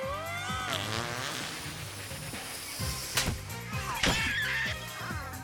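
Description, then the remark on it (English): Cartoonish fart and hissing gas-cloud sound effects as the cartoon character Red, falling, makes a fart gas cloud to land on, bursting over a busy, playful musical score, with a couple of sharper sprays near the end and no talking. “Falling, Red makes a fart gas cloud to land on.”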